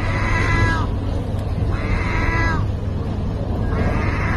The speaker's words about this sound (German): Eine Möwe, die wie eine Katze klingt? Das hat jemand mit dem Handy in der Türkei gefilmt. Die Möwe steht vor einem Futterautomaten für streunende Katzen. Und dann legt sie los und miaut. Und so klingt das.